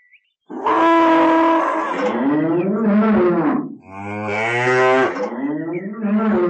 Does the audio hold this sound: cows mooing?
yes